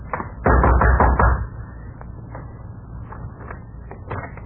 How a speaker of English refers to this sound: I walked boldly to the rear door and knocked.